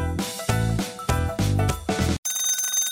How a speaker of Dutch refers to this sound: Hey, daar gaat onze MeTime wekker van Nivea.